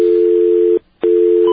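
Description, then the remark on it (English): A steady, loud outside telephone dial tone, heard while calling the National Do Not Call Registry's toll-free number, hums at a single low-mid pitch, cuts out briefly for a short gap, then resumes just as steadily, with a faint higher tone entering at the end. “Outside dial tone.”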